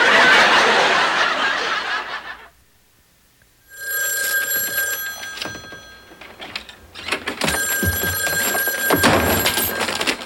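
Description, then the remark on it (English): After a brief rush of noise and a moment of silence, a telephone rings loudly, its shrill bell tones coming in two long bursts with a short pause between. “That's how you answer the phone?”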